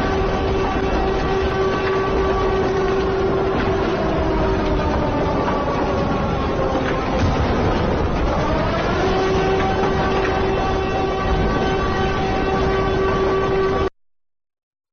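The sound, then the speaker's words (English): A loud air raid siren in Israel, sounding during an Iranian rocket attack, wails steadily for about fourteen seconds, its tone sagging in the middle before climbing back to a sustained pitch, then cutting off abruptly. No voices. “Can you imagine being there in Israel and the sirens?”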